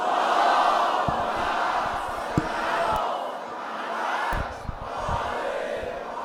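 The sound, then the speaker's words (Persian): A large crowd chants a salawat for Hazrat Shahrbanu loudly in unison, a dense roar of many voices rising and falling in waves, punctuated by sharp thumps and claps. “یه صلوات بلند برا حضرت شهربانو بفرست.”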